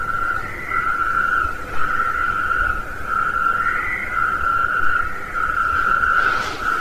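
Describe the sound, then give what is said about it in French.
A recording of a toad's call. The toad is about 7 to 8 cm long, of a kind between the midwife toad and the common toad. The call is a loud, sustained rattling trill that pulses on and off in long bursts with only brief pauses, with no one talking. “Donc il est intermédiaire entre le crapaud accoucheur et le crapaud commun. Il est un peu plus petit, hein, 7 à 8 cm. Je vais lancer le chant de suite.”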